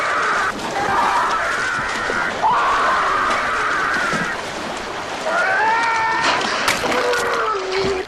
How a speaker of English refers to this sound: The blood-curdling scream he does, and there's no music. No, there's no score. Just hear him screaming, and I thought that that was fucking awesome.